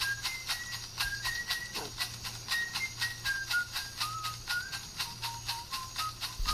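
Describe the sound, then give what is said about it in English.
A soft whistled melody from an Amazonian ritual song, made by trippers in the Amazon, wanders in short, sliding notes over a steady, rhythmic rattle shaken about three times a second, with a low hum underneath and no talking. “They were all made by these trippers in the Amazon. And they're all using, like, rattles and shit, and they're whistling.”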